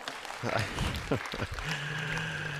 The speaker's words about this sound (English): You can clap if you want.